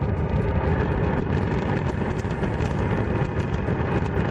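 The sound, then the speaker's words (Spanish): The Cumbre Vieja volcano on La Palma erupting: a deep, continuous roar rumbles steadily throughout, loud and dense with heavy low-end energy and a rough, churning texture, with no voices present. “Quitando los 13 últimos días, que es el tiempo que el volcán de Cumbre Vieja lleva en calma, los palmeros han estado en vilo escuchando prácticamente a todas horas un rugido como este.”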